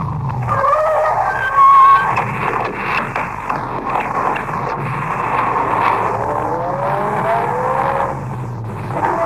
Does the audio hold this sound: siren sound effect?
no